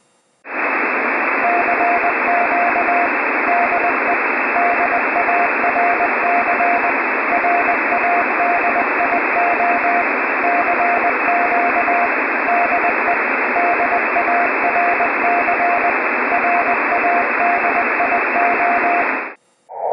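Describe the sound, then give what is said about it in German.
A steady, loud hiss of band-limited static fills the whole stretch, with a thin keyed telegraphy tone beeping dots and dashes in a continuous Morse code rhythm, first at 0 dB for comparison and then at minus 10 dB, 10 dB below the noise power. “Dazu zunächst wieder das 0 Dezibel Signal als Vergleich und dann direkt in Folge das minus 10 Dezibel Signal.”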